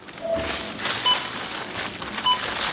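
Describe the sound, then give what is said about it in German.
Short electronic checkout beeps at a Lidl supermarket in Ismaning, about three of them spaced irregularly, ring out over a steady hiss of shop bustle. One is lower in pitch and the later two are sharper. “Die Kasse klingelt in diesem Lidl-Markt in Ismaning”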